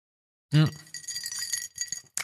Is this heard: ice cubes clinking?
yes